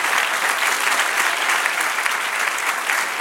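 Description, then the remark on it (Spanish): Steady, loud applause from a crowd, given to God during a worship service, a dense continuous patter of many hands clapping with no pauses and no voices standing out. “Denle un aplauso al que vive y reina.”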